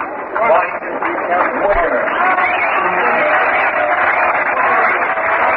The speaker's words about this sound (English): Crowd applauds Wagner. His great fielding play.